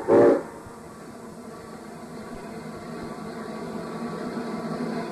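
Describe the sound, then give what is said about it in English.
A short, loud whistle blast opens, then a steady low rumble and clatter of a train engine backing up, heading backward, building slightly in loudness over several seconds. “And he said it was a backup signal because we're backing up because the engine is heading backward.”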